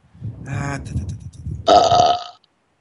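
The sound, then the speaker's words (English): A loud, drawn-out burp starting low and rumbly before rising into a strained, tonal belch lasting a couple of seconds, with no talking over it. “Who did that? That was moi. Oh, …. Girl, don't burp.”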